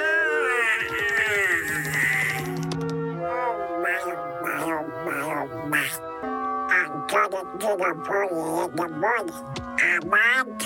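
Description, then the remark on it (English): The raspy, garbled cartoon voice of Donald Duck quacks and babbles continuously for several seconds, loud, with rapid squawking bursts and wavering pitch. “Wake up, Donald Duck.”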